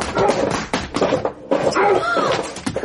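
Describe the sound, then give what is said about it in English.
A dog whimpers and gives short, sharp barks, the sounds coming in quick bursts with a few dull thuds mixed in. “Colin, that dog, did you see?”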